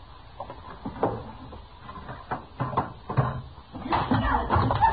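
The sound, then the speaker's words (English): A drawer is pulled open and pushed shut, with a series of wooden clunks, thumps and scrapes spread over several seconds, growing busier toward the end, with no one talking. “Throw them in a drawer, Chester.”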